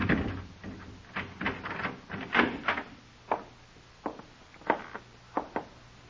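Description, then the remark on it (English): A door is unlocked with keys and opened: a string of sharp metallic clicks and clunks, spaced irregularly over several seconds, with no voices. “Here, open the door.”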